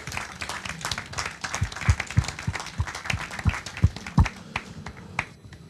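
A few people clap together for several seconds, sharp claps overlapping in a loose, uneven rhythm with one stronger set of claps standing out. No one speaks over the applause.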